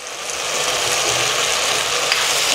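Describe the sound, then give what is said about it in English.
Chicken frying in a pan in a yogurt mixture with red chili powder and corn flour gives off a steady, dense sizzle with a bright crackling hiss that holds level throughout, broken only by a few sharper pops and no voices. “And cook till it's nice and coated and dried up.”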